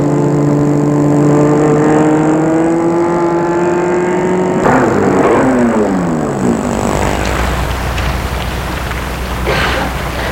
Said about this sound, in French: Sans s'en rendre compte, il est arrivé devant l'immeuble de chez Babette. Il va arrêter la voiture.